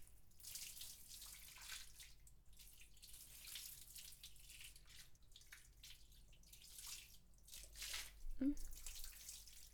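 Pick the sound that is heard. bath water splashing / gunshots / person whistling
bath water splashing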